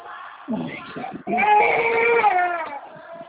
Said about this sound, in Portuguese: Espera, neném. Calma, não chora.